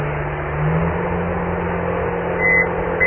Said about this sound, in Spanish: ¡Ay, animal! El tío está subiéndolo con una grúa. ¿Con una grúa? A ver, ponga el teléfono en la ventana para que oigamos.